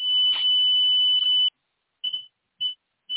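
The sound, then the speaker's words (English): Pure electronic test tones of chakra frequencies: a steady high-pitched tone held for about a second and a half, then three short beeps at the same pitch, clear and loud with no voices. “Those were the chakra frequencies.”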